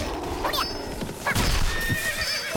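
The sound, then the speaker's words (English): Two horses whinny in warbling bursts, one neigh following shortly after the other, over a steady background of clip-clopping hooves and rustling noise. No one speaks. “that was a double horse, and I got one of them.”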